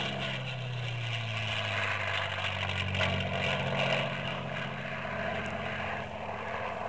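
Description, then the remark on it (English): A propeller airplane drones steadily overhead, its low engine hum sliding slightly downward in pitch as it passes, with a broad rushing roar that stays fairly loud throughout. “All of a sudden, she thought she heard the tapping sound again, but it was just an airplane passing by.”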